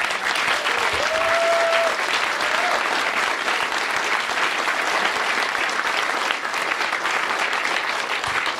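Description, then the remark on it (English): Loud, sustained applause from a large audience for the staff in blue shirts, a dense steady wash of clapping lasting the whole stretch, with a brief faint whistle or voice rising above it early on. “They need a big round of applause also.”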